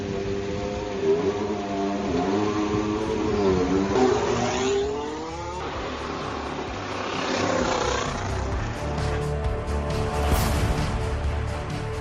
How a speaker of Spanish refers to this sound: la pista de Silverstone y hacer un test, lo que llaman TPC, es decir, un test de recordatorio de piloto, con el que puede rodar a fondo, sin problemas, pero eso sí con un coche del año pasado. Llevaba un Williams FW47 y así sonaba al salir de boxes.